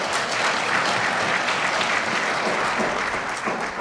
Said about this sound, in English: I'll go ahead and clap.